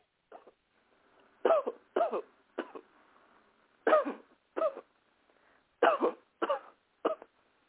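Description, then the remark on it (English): A woman coughs repeatedly in short, harsh bursts during a deliverance prayer, about eight coughs grouped in uneven clusters, fairly loud with brief quiet gaps between them. “Cough again.”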